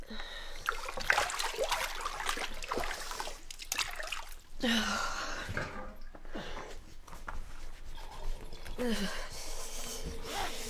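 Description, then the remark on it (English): Water sloshes and splashes in a bathtub in several uneven surges, fairly loud, with trickles and drips between the movements as someone who has been in the bath for 50 minutes shifts and climbs out. “You should get out of that bath now. Water will be freezing.”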